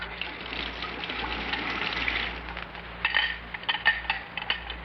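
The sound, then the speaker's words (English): Water pours steadily into a glass for a few seconds, followed by a handful of light clinks and taps as the glass is handled, set against a faint low hum. “Water or soda, pussycat?”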